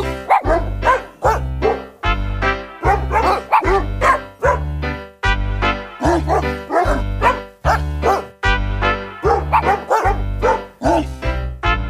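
Dog barks pitched to a Christmas song melody, loud and steady in a bouncy rhythm over a thumping bass backing, with no talking.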